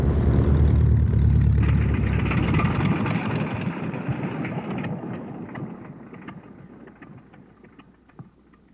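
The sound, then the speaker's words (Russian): A heavy rumble of an aircraft landing on a runway as the captain sets it down, loud at first with a deep low roar, then steadily fading as the plane rolls out and slows. “Командир посадил машину.”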